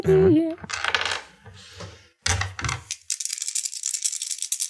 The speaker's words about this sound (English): Okay. These are dice, right? Yeah. Sometimes.